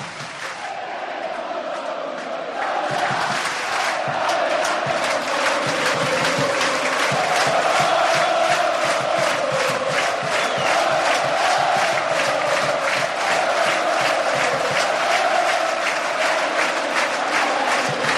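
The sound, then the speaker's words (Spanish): A huge football crowd of well over 15,000 spectators at the Castalia stadium roars and chants continuously during a match, a dense wall of shouting with rhythmic clapping pulses, swelling in the first few seconds and then holding loud and steady throughout. “¿Cómo grita Castalia y qué metida está la gente en el partido?”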